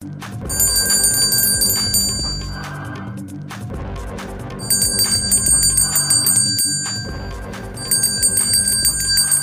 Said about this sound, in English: So you may be asking what I'm doing. Well, I'm going to ask our first guest. Why the bells are ringing.